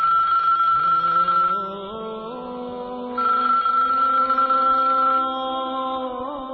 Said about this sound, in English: Just then, her phone rings.